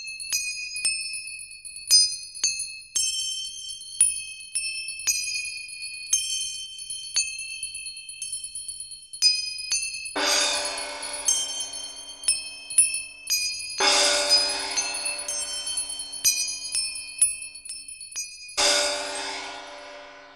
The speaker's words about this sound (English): Examples of ghanavadya, or solid instruments, are manjira, or cymbals, gongs, and bells.